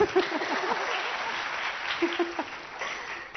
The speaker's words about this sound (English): Round of applause to me.